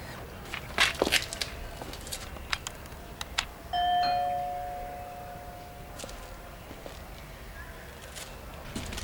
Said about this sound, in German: Wir sind nämlich am Ziel, Freunde. Soll ich klingeln? Ja, nur zu.